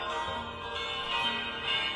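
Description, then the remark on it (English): Church bells in Italy ring steadily, their overlapping metallic tones blending into a dense, sustained clang that stays fairly loud throughout, with no voices. “Oh, ringing the bell.”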